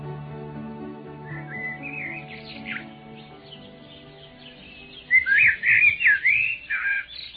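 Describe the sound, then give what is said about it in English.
Birds chirp and tweet together in quick, whistly calls, softer at first, then a louder burst of overlapping chirps near the end, all over a low steady background hum. “All of the birds gathered around to talk about the party.”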